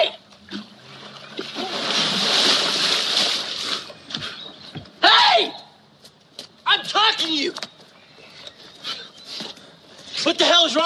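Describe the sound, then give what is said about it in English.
A person pushed off a bridge plunges into a river with a loud, rushing splash of water lasting a few seconds, followed by several short, strained vocal gasps and cries. “You threw me into the river.”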